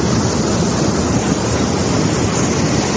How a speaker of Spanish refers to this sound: Con esa intensidad baja el agua por el barranco de la presa, que se ha desbordado.